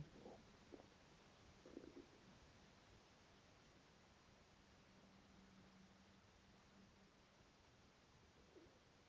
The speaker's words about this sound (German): Höre das Brummen der Schiffe. Spüre die Vibration der Schiffsschrauben.